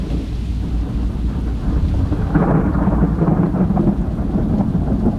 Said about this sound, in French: J'ai dormi dans ce bruit, et puis il a plu. De pluie bien serrée.